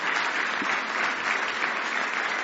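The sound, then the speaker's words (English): An audience applauds steadily, giving the Lord a hand clap of praise as they are seated: the dense patter of many hands clapping holding an even loudness throughout, with no voices standing out above it. “All right, give the Lord one more hand clap of praise as you're seated tonight.”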